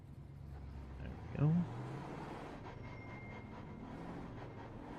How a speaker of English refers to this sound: I revved my car so I could hear the frickin' audio of my car to see if my volume level was good.